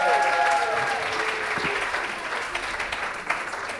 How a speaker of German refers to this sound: Applaus für Till.